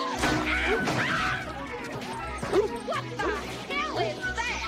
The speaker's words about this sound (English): Fireworks continue to erupt in the trees.